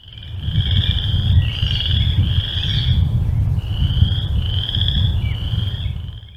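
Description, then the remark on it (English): Chorus frogs call in a steady run of high, raspy trills that repeat and overlap, recorded outdoors in the wild over a constant low rumble of background noise, with no voices. “So let's play you just a little bit of the chorus frog”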